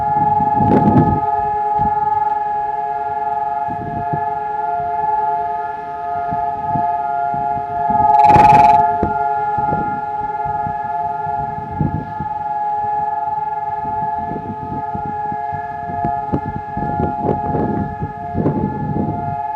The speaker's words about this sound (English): All over the whole country of Israel, sirens sound, and for exactly 2 minutes, everything stops.